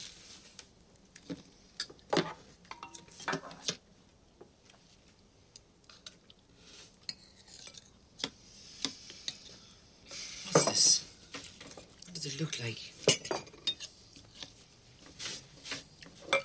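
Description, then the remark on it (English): At a dining room table, a spoon scrapes and taps against a pot, with scattered clinks of utensils and bowls and a few soft wet scoops as a mother ladles porridge out for each of her children. There is no talking. “At the dining room table, Mrs. Brown scoops porridge out of a pot and pours it for each of her children.”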